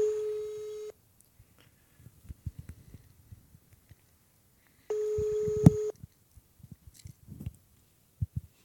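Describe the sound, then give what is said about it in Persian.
A telephone line tone sounds twice as a radio host calls back a listener during an open-mic phone-in, each a steady electronic buzz lasting about a second with a few seconds' gap between, while soft clicks and taps from handling the phone fill the quiet. “من دوستی بودن تماس گرفتم، من تلفنشون رو میگیرم.”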